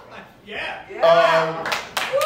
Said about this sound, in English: Yeah. Don't clap for that shit, because you motherfuckers don't watch it.